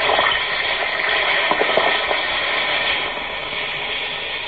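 An Alka-Seltzer effervescent tablet fizzes steadily in a glass of water, a continuous bubbling hiss with tiny crackles, easing slightly toward the end. No one speaks.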